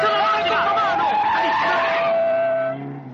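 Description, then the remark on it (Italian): A car brakes hard to a stop in front of the Socialist Party, its tires letting out a loud, sustained squeal that wavers in pitch for about two and a half seconds before dropping away, with muffled voices underneath. “Firmati davanti al Partito Socialista.”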